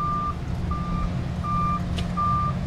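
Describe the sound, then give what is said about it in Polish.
A dump truck reverses slowly up to a paving machine to tip in concrete mix, its backup alarm sounding four steady evenly spaced beeps over a deep rumbling engine, with low machinery noise filling the background. “Tu jest syp, auta podjeżdżają, wsypują mieszankę”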